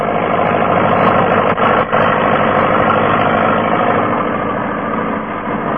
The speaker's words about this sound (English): clearing long, straight furrows through the rich loam soil with a new tractor and disc plough